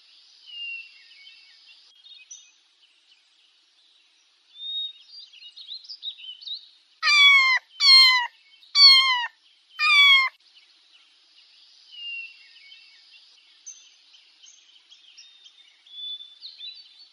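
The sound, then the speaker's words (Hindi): Four loud, close cat meows come in quick succession, each a drawn-out falling cry, set between stretches of faint, high bird twittering in the background. “Teacher, अब अपनी class में सबसे पीछे बैठे हुए स्टूडेंट से कहें कि वो बिल्ली की आवाज पर यस कहें।”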